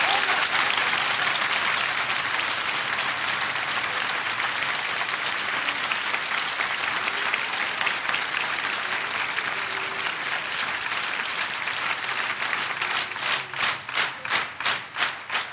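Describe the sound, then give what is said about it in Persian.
An audience at a religious gathering honouring Imam Zain al-Abidin applauds in a dense, loud wash of claps that gradually settles into unison, ending with strong, evenly spaced rhythmic claps over the last few seconds. “هر چقدر قرار انشالله به حاجت دلت برسی، یه شرط داره که این دستایی که به گدایی بلند کردی در خونه خدا الانم بلند کنی، بلند کن، نشون بده به امام زین العابدین ناز قدم های آقازادش کف مرتب بزن.”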